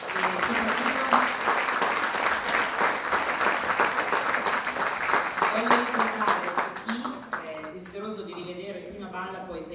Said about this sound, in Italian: un grosso applauso.